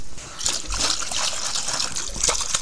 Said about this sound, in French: Guillemette tombe à l'eau.